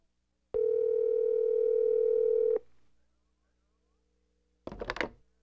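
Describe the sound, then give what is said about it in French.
A steady electronic telephone tone holds for about two seconds as a call is placed to a clown, then cuts off; after a quiet pause comes a brief clattery burst, like a handset being handled. No one speaks. “Kobe est fatigué, alors je téléphone à Boubou.”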